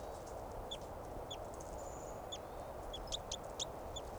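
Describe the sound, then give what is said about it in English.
A crossbill calls with a series of short, high, downward-sliding chirps, spaced irregularly and growing more frequent toward the end, over a steady background hiss with no talking. “Three at seven calling, and the wild bird's sitting looking at the cones in 387's cage.”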